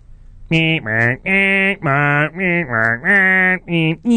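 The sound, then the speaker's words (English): Car horns honk over and over in quick succession in the streets of Lima, Peru: loud, flat blaring blasts of slightly different pitches, with only brief gaps between them and no voices. “But the first sound you hear when your eyes open in Lima, Peru, even inside, is the honking of horns.”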